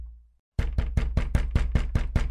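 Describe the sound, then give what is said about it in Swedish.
Someone pounds repeatedly on a locked door from the inside in a fast, steady run of about nine heavy, booming thuds, loud, starting after a brief near-silent pause with no voices. “Jag bankade på dörren upprepade gånger.”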